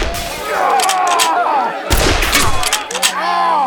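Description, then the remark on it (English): A loud, sharp gunshot bursts out midway as a whiskey bottle is shot, followed by crackling, shattering noise of the bottle breaking, with warbling tonal sounds running underneath before and after. “He waited until Levi Odell tipped the whiskey bottle and fired, shattering the bottle in Odell's face.”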